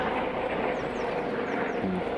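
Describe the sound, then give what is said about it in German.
A steady, continuous engine roar from a helicopter passing overhead, fairly loud and unbroken, filling the whole moment with no speech. “Das klingt wie ein Hubschrauber.”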